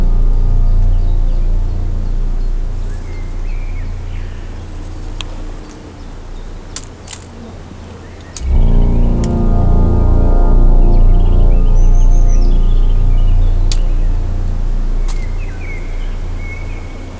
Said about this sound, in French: l'eau sous la voûte d'un rocher calcaire. S'égrènent quelques gouttelettes d'eau.